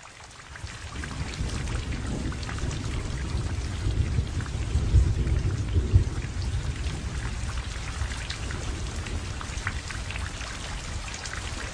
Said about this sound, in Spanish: para terminar con la sequía que provocó el sol fuerte y caluroso, envió mucha lluvia.